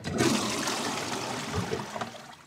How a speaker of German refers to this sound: Und am Klo. Da habe ich schon gespült.